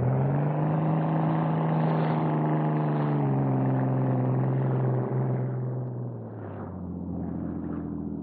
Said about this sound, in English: In a motorboat, Cato had been waiting alongside the yacht. He was ready when the Hornet dropped from the rail. He gunned the engine, and the small, fast boat raced toward the dock.